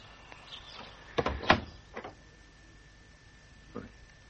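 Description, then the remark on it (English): A broken front door is pushed open with a cluster of sharp clunks and scrapes, then a softer knock a couple of seconds later, against a quiet background. “Doesn't even bother to lock his front door now.”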